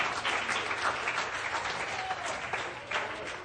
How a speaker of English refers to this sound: Give him a hand of praise tonight.